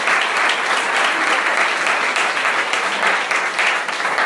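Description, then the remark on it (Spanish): An audience applauds the Lord steadily, a dense wash of many hands clapping together, sustained and loud without a break for the whole stretch. “Denle el aplauso al Señor.”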